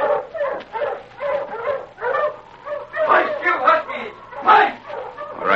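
Several huskies bark and yip in a busy, overlapping chorus, fairly loud, with excited high-pitched yelps rising toward the end and a low steady hum underneath.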